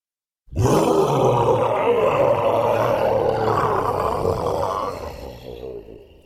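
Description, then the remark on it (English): Thunder Bear rises up and growls loudly in one long, deep, rumbling roar that starts abruptly, holds steady for about five seconds, then tapers off. No one speaks over it. “Then Thunder Bear rose up again and growled loud enough for all to hear.”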